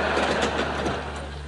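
The small electric motor of a handmade model Graf Zeppelin airship buzzes steadily as it flies in an office, a continuous whirring drone with a low hum underneath and no voices.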